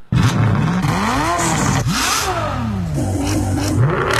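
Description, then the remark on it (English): A loud car engine revs repeatedly through a modified muffler in a Westchester County suburb, its harsh, rumbling pitch rising and falling in several throttle bursts with a crackly, raspy exhaust tone throughout. “We're talking about modified mufflers, drag racing, excessive horn honking.”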